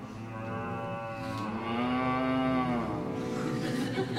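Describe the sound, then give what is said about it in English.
A person does a long, drawn-out moo imitation, a single sustained lowing call that rises and falls in pitch over about four seconds, loud and close. “Cows?”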